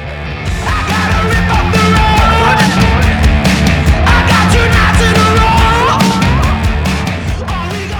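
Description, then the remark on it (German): A loud, dense rock song plays throughout, with harsh, screeching electric guitars and strained, distorted vocals over a pounding rhythm section. “Der Song poltert mit teils kreischenden Gitarren und verzerrten Vocals los.”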